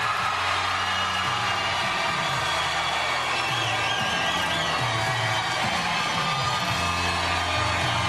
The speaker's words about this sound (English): We're going to do this by crowd applause